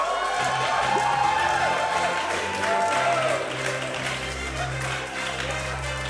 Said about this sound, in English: Your applause means nothing to me. It's just the sound of you remembering.